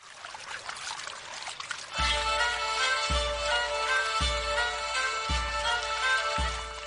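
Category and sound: nature, water trickling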